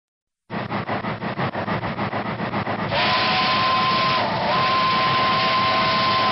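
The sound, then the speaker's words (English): The small steam engine of a miniature train ride at the old site of Riverview Park in Des Moines chuffs in a quick, steady rhythm, then a loud, sustained steam whistle blows with a brief dip before sounding again over the hissing engine. “It's an original recording of the steam engine whistle on the miniature train ride here on the old site of Riverview Park in Des Moines.”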